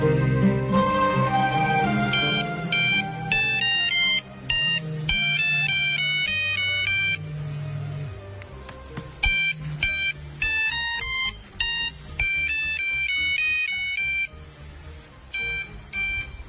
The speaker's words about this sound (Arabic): حتى جهاز الموبايل يعزف موسيقى عراقية، من أي مقام هذه الرنة في تليفونك؟ هذه من مقام موسيقى مقام المدمي، وهو فرع من فروع مقام الحجاز.